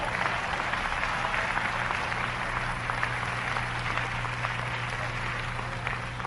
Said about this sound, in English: Yeah. Clap your hands, somebody.